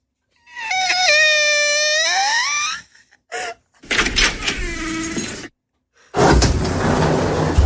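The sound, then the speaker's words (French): A voice imitates a door opening, standing in for opening a box of an Advent calendar: a long, wavering, drawn-out creak, then a few short breathy, rattling bursts and a final loud hissing whoosh. “Bon, vu que j'ai pas de bruit de case, on fait comme si on ouvrait une porte.”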